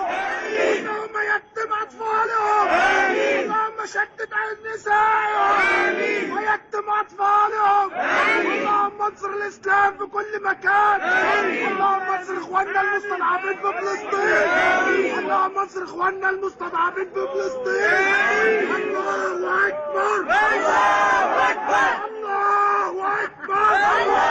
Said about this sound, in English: And then we have in Hungary. This is a complete mess. You can see, like, just everyone just running around. They're screaming, fuck you to the police.